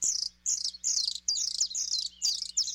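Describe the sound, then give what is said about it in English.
A male bluethroat sings in the Arctic in spring, a rapid, high-pitched song of repeated phrases, about six bursts of insect-like trills, whistles and buzzy notes separated by short pauses, with no voices over it. “It's a beautiful male blue throat, his vivid azure throat and upper breast rimmed with rust.”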